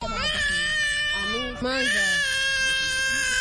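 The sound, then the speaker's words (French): A hungry baby in its mother's arms wails loudly on the beach at Rumonge, Burundi, about 100 km south of Bujumbura, just landed by pirogue from the Democratic Republic of Congo. It is a sustained high-pitched cry that barely pauses for breath partway through before continuing just as strongly. “Sur la plage de Rumonge, à une centaine de kilomètres au sud de Bujumbura, ce bébé dans les bras de sa maman vient d'accoster d'une pirogue qui vient de la République démocratique voisine.”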